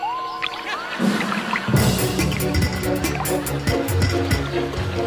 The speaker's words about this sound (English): For those listening at home, it's one of those little lizards that runs across the water.